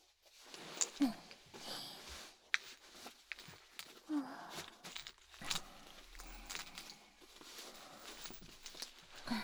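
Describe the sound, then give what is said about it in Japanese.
Irregular rustling and small clicks as ankle shackles with a long, soft glass-fibre cord are fastened, with soft handling noises and a few sharper snaps spread across the whole stretch. “とりあえず紐付きの足かせをつけさせてもらうね。”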